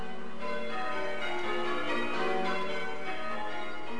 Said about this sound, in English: We're aiming to ring a quarter peal in each of our towers. It's an opportunity to show off our ability to manage our bell and ring and celebrate and really make a noise to say happy birthday, Your Majesty.